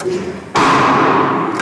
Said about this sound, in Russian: Есть подрыв! Наша главная плита пробита насквозь. Вот вход, а вот и выход.